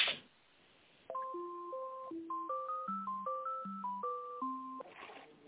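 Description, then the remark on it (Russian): A phone line plays a short electronic melody of stepped, beeping tones for about four seconds, the thin, band-limited kind heard while a call is being transferred, with no voices over it. “Сейчас, секундочку, я вас переключу.”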